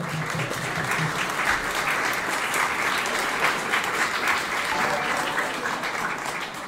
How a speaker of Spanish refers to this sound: Aplauso, por favor.